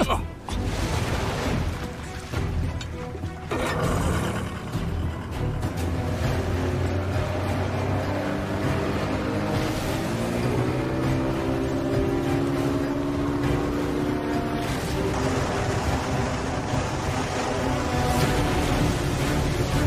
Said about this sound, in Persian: خانم یه قایق ماهیگیری داره از جلوی کشتی رد میشه.